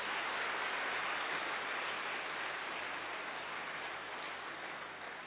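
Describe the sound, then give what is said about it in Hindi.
A steady wash of audience applause welcoming Rajyogini Raj Didi, many hands clapping together in a dense, even roar that holds for several seconds and eases off slightly toward the end, with no voices over it. “परम श्रद्धे परमादरणीय राजयोगिनी तपस्वी मूर्त दिव्य मूर्ति राज दीदी का हम सभी तालियों के साथ स्वागत करते हैं।”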